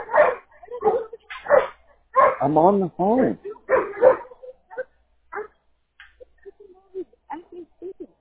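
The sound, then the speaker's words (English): A male dog barks in a burst of several loud yelping barks, mixed with someone talking, followed by fainter, scattered whimpering yips as the barking dies down. “That's why I said we should get rid of that damn dog, but you want to keep him.”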